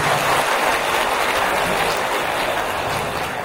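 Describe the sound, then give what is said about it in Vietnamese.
A Buddhist audience claps steadily for a few seconds to welcome a nun, a dense, loud wash of applause with no voices breaking through. “Toàn thể hội chúng hãy dâng cao tràng pháo tay để chào đón ni sư.”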